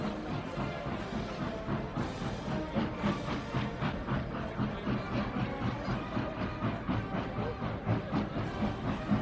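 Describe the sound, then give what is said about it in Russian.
A train rolls close by with a dense, rumbling roar and a steady rhythmic clatter of wheels over the rails, loud and continuous throughout with faint hissing on top. “Вон он, поезд, совсем близко!”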